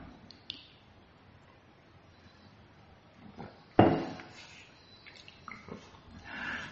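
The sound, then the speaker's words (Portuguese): Someone drinking water: quiet sips and swallows with faint liquid sounds, small clicks, and one louder splashy gulp midway, with no one talking. “Já está rodando o trem, já vai abrir, está abrindo, vou até tomar água.”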